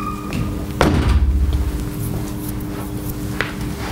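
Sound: door being closed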